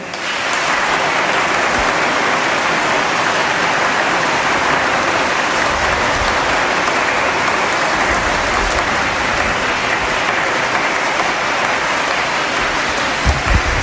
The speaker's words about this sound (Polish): Są to parafie, z których przybyła młodzież na tegoroczny 13. Festiwal Młodych. Dla wszystkich na koniec ogromne brawa.